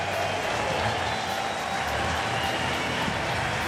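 A ballpark crowd applauds as pitcher Tyler Pill comes out of the game after 5 1/3 innings, a steady, dense wash of clapping and crowd noise that holds at an even loudness for nearly four seconds without a clear peak or break.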